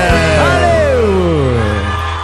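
A loud audience cheers and shouts, with one voice letting out a long whoop that slides down in pitch over a steady wash of crowd noise.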